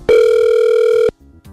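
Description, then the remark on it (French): A loud, steady telephone dial tone holds a single pitch for about a second, then cuts off abruptly, leaving faint low background noise. “Est-ce que déjà, on a un petit peu de tonalité? Oh, la tonalité.”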